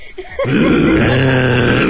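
A loud, drawn-out burp after eating breakfast erupts after a brief quiet moment, rumbling low and sustained for over a second, unpleasant.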